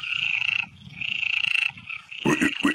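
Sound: frogs croaking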